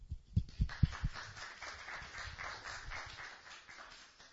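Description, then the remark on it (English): A small group applauds: a few low thumps at the start, then a steady, fairly quiet patter of clapping that carries on evenly to the end, with no voices. “An applause.”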